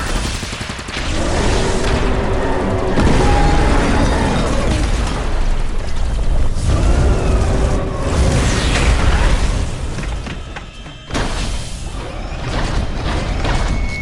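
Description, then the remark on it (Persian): Weapons open fire on command: a dense, continuous barrage of rapid gunfire and heavy blasts fills the scene, loud, with rattling mechanical clatter throughout and a brief dip before the firing resumes. “خوبه، شلیک کنید.”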